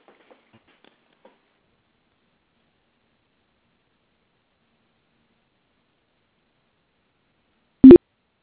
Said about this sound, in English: All right, I hear a bunch of beeps. I'm hoping that's people arriving and not hanging up.